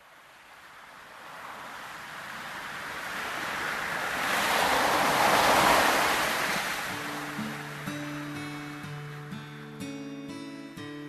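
A wave swells and breaks on the shore of a beach in late autumn, its broad wash rising to a peak and slowly receding, with a soft tonal melody fading in toward the end; no one speaks.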